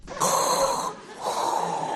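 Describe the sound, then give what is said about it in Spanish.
Two long, heavy breaths, an inhale then an exhale, rasp loudly with a hollow, mask-like hiss, like someone breathing inside a sealed helmet. No one speaks. “Me estoy escuchando la respiración y digo, macho, le pasco al Darth Vader.”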